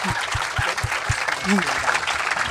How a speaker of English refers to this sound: A round of applause for being working class. For being working class, but doing it with such elan.